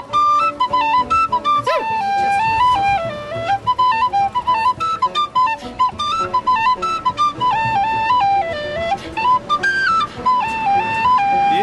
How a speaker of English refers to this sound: What's a triplet? Well, it's like a move with your fingers to make the tin whistle sound better. Do you have to do it really quickly? Yeah.